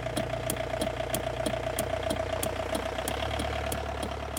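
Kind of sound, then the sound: vehicle, car motor running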